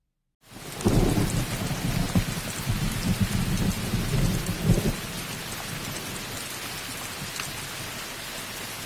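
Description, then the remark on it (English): A thunderstorm: a long, deep roll of thunder rumbles loudly for several seconds, then fades beneath steady, hissing rain that continues to the end. “Retreating to his rooms, Auron opened the door to the courtyard and stepped out into the storm.”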